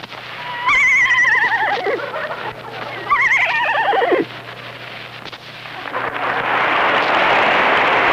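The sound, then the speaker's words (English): A man from Providence, Rhode Island, imitates a horse whinny twice on stage at Town Hall: two loud, quavering, descending neighs, one after the other, followed by a steady rush of broad noise like applause. “Final imitation is a horse.”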